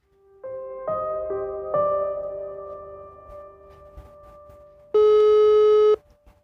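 signal or alarm, phone call ringing tone

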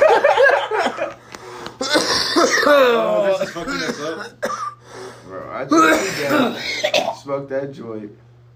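human body sound, coughing fit

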